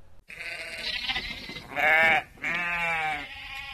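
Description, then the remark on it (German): Sheep bleat, a wavering cry followed by two louder, quavering bleats in quick succession, with no talking. “Und da es Schafe in Fahrenwald höchstens noch als Abendessen gibt, zum Abschluss ein Heidschnuckenrezept.”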